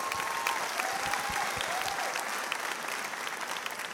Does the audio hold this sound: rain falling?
no